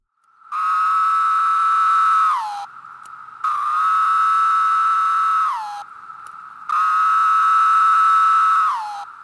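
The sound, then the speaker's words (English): Three long, steady droning buzzes from a Linnaeus's 17-year periodical cicada, each holding a high tone for about two seconds before dropping in pitch at the end, like a drawn-out "pharaoh." “Linnaeus's 17-year cicada produces a droning call that sounds like someone saying the word pharaoh, as in Egyptian pharaoh, with the first syllable extended, pharaoh.”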